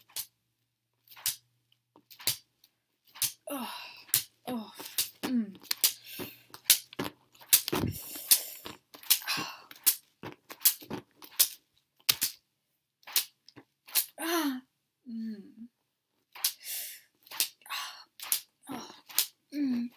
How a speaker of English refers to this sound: Another reason why I'd love someone else to be able to whip me. You can only get so much of a swing when you're whipping your own back.